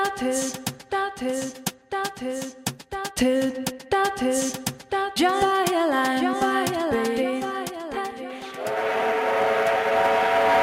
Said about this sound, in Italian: Adesso lo senti anche tu, questo suono è il nostro treno, perché questo programma, L'Ombelico del Mondo, ha un treno e quindi adesso saliamo.